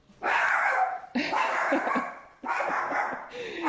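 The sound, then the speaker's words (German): A dog barks three times in quick succession, each bark loud and drawn out with a rough, strained tone, separated by brief pauses. “Viele werden jetzt, würden jetzt zum Beispiel sehr böse reagieren, weil der Hund gebellt hat.”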